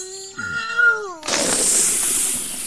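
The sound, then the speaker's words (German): A wavering, squeaky tone glides for about a second, then a loud, steady hissing whoosh bursts out and rushes on to the end as a green bottle is opened and its cork pops into the air. “Der Korken knallte in die Luft und der kleine Geist zischte heraus.”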